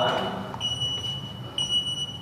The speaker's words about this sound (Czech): Tak to jsme proběhli kolem alarmu. Ten alarm signalizuje, že tady je lehce zvýšená hladina CO2, kysličníku uhličitého. Ano. Který, jak je známo, vzniká jako vedlejší produkt při kvašení.